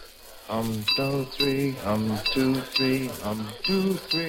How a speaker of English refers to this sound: Well, are you accustomed to eating in restaurants where it's necessary to pound on your water glass for service?